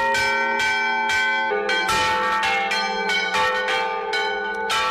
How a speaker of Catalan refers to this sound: La Patum de Berga, els castells, la dieta mediterrània, les festes del foc al Pirineu, l'art de la pedra seca, l'ofici dels rellers i el toc manual de campanes.